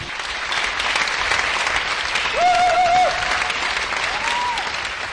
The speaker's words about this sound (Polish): Lavers zdobył publiczność maltańską. Oklaskiwała go na stojąco.